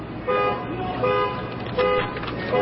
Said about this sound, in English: The perfect, surreal, and idiotic note coming in with the car alarm.